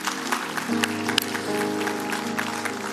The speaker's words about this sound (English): Can we give the Lord a round of applause because He's here?